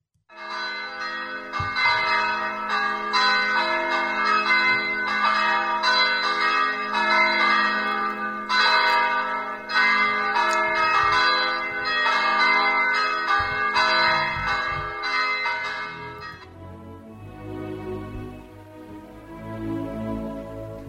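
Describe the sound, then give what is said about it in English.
Church bells of St. Joseph's Catholic Church in Dover, Ohio ring out loudly and continuously, overlapping peals layered with rich, sustained harmonic tones that shimmer and decay, thinning toward the end as the ringing settles. “This is one of the church bells ringing at St. Joseph's Catholic Church in Dover, Ohio.”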